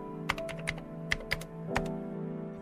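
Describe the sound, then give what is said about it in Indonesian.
A handful of crisp clicks on a computer keyboard tapped out irregularly while moving the contents of a memory card onto the computer, about eight keystrokes over a steady low hum, with no voices present. “Ia langsung memindah isi kartu memori itu ke dalam komputer.”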